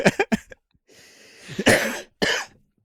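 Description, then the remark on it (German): A loud coughing fit brought on by laughing: a quick string of short coughs, then a strained, wheezy intake of breath followed by two harsh, heavy coughs, with no talking. “Der Hustenreiz sonst ausgelöst wird.”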